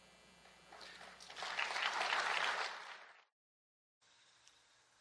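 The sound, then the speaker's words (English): Light applause from a small audience swells over a couple of seconds, then cuts off abruptly, followed after a brief silence by a fainter, steadier patch of the same clapping. “Light applause.”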